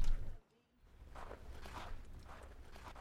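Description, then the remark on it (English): Steady footsteps crunch along at a walking pace after a brief silence, each step distinct with a soft, gritty texture, treading on snow outdoors while it is snowing. “Sound of footsteps.”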